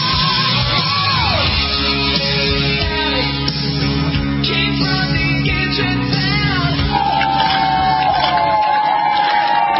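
A large crowd claps and cheers loudly and steadily for former President Bush on his 90th birthday, with yells and whoops rising over a continuous wash of applause throughout.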